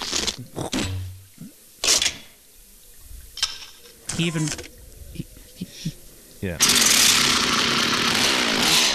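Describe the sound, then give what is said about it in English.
Film montage of Ash making his chainsaw arm in the work shed: a run of scattered metallic clanks, thuds and short mechanical bursts gives way to a chainsaw engine roaring loudly and steadily through the final seconds. “So Ash heads to the work shed, and we get to hear the wonderful montage of him making the chainsaw arm.”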